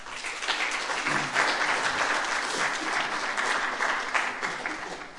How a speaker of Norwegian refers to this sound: Jeg synes vi skal klappe for disse instituttledere.